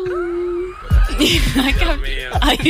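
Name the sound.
person imitating cat meows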